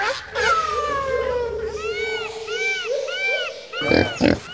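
A Kunekune pig at Hellabrunn zoo grunts loudly, a run of drawn-out, squealing calls rising and falling in quick succession, ending with a couple of short, harsh snorts.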